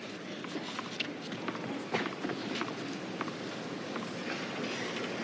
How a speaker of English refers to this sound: You can hear the flagpoles, the battle against the flagpoles, just highlighting how windy it is today